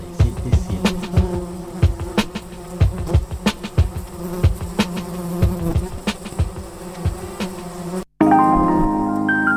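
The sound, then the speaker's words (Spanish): A housefly buzzing sound effect, used as an ident for FM 87.7 Radio La Mosca, drones loudly in a steady, wavering buzz, punctuated by sharp tapping clicks, before cutting off abruptly into a brief electronic tone. “FM 87.7 Radio La Mosca. Insistente.”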